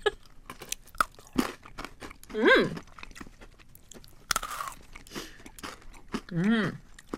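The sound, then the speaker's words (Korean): Crisp, crackly crunches of someone chewing an original-flavour snack cookie during a taste test, repeated in uneven bursts, with two short rising-and-falling hummed vocal sounds breaking in between bites. “과자 부분이 짠맛이 있어요.”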